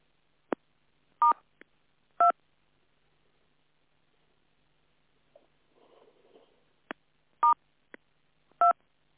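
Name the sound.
telephone keypad tones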